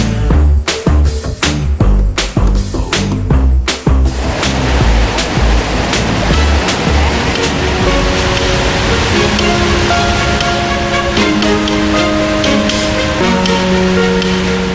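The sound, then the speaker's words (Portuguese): A loud, continuous roar of the rushing Cachoeira do Santuário waterfall fills the whole stretch, steady, with rhythmic music beats early on and sustained musical tones layered over the water later. “Na Cachoeira do Santuário, tem homenagem a Santa Clara, a padroeira das águas.”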